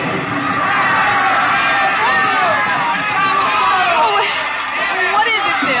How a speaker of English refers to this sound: What are they saying? They're cheering for the bull.